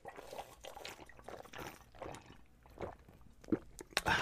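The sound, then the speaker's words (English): A person gulps down a sports drink, with several wet swallowing and sloshing sounds in an uneven rhythm and a couple of sharper clicks near the end. No one speaks. “why I take a gulp on these podcasts”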